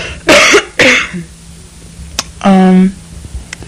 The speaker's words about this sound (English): Just, I got a cough.